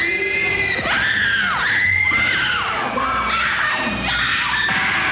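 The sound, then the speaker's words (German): Thousands of a band's fans in the 1960s scream as the band steps out of a plane or hotel, at a constant, deafening pitch, countless high shrieks overlapping in a dense wall of sound that never lets up. “Die vier …-Mitglieder mit ihren Topfschnitten steigen aus dem Flugzeug oder dem Hotel und tausende Fans kreischen um die Wette.”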